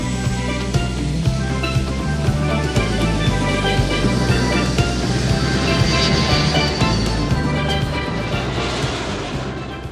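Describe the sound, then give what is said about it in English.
A passenger jet roars steadily as it churns down a rustic runway and takes off into the sky, a loud, dense engine rumble with a high whine running through it, holding strong for the full ten seconds before easing slightly at the end. “A passenger jet churns down a rustic runway before it takes off into the sky.”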